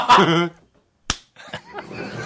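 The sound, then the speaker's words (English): A single sharp, loud slap, a crisp smack against a person's skin, right after a brief vocal outburst and a moment of silence, followed by scattered voices and light laughter. “Anyway, so I can't tell where he's been slapped.”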